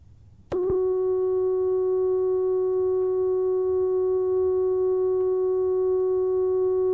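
A steady, pure electronic sine wave tone from an oscillator connected directly to a studio mixer switches on abruptly after a brief click and holds at constant pitch and loudness for several seconds, with no one speaking.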